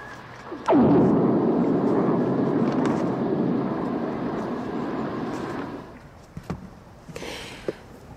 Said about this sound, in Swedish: vi har också blixtnedslag i våra egna inspelningar, men inte lika maffigt och mäktigt som det här